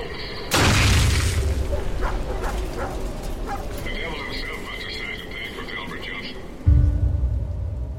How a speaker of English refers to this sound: Johnson survived the explosion